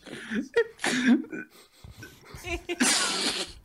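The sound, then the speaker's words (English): A man sniffs loudly, two long breathy sniffs separated by short murmured vocal sounds and snorting noises. “He's sniffing.”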